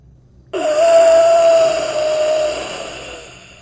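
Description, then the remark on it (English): A man at the top of a ladder gives a sudden, loud, raspy gasp after a brief silence, like a last breath, stretching into a strained, groaning breath that slowly fades over a few seconds, alone. “The man at the top snaps his neck in a disturbingly contorted way to look towards me, and gives out this ungodly gasp, like he was taking his last breath of air.”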